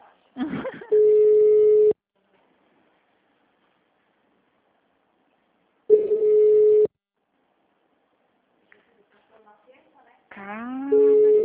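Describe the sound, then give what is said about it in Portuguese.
A telephone rings in two loud, steady electronic bursts about a second long, separated by several seconds of silence, followed by a brief wavering tone at the end. “Atende o telefone.”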